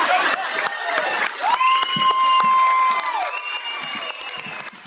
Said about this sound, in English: I loved the squeals of delight from the audience where they put it all together.